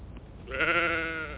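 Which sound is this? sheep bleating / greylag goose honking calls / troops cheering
sheep bleating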